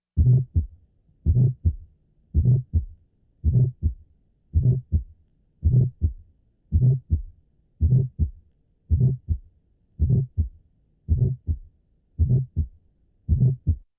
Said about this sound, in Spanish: Muchos de estos soplos inocentes tienen un timbre vibratorio muy característico. Repitiendo, el soplo deberá ser auscultado con el receptor de campana.